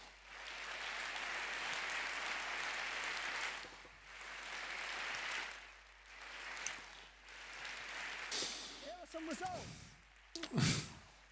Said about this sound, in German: Also dies sind Organisationsgenies, die verdienen mindestens so viel Ehre, mehr Kredit als ich und alle anderen Ausländer. Bitte Applaus für das Team.